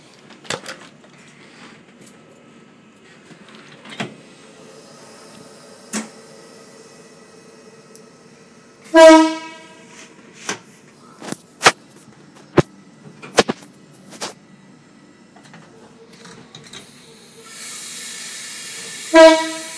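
A train rumbles along with sharp, irregular clanks of the carriages, and a loud horn blasts twice, once midway and again at the end, over a rising hiss of air or steam.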